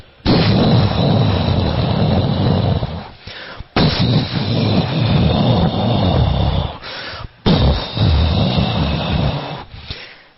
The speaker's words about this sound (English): And he called for the Samvartaka clouds, the clouds of devastation. Samvartaka clouds! And the clouds appeared and began to thunder.